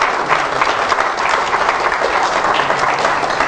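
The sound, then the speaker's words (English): A church audience applauds for those watching the service by internet, many hands clapping in a dense, even wash of sound that stays loud and constant throughout with no voices breaking through. “Give them a hand of applause.”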